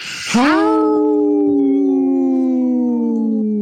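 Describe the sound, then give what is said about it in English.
People on a radio show imitate a wolf howl together: a brief breathy noise, then a long sustained howl that rises quickly and holds a steady, slowly falling tone for about three seconds, loud and alone. “did you howl with us?”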